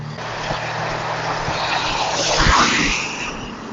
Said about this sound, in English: You'll hear the noise of all those cars passing me. It's one thing to walk down this hill, quite a different thing to walk up it. But I'm a bit nervous because as I walk down the hill, the cars are coming from behind me. I can't see them coming